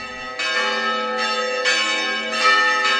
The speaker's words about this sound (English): On this day, the church bells are clanging. A newly married couple and wedding party pour out of the simple but solid structure, built of stone and covered with white plaster.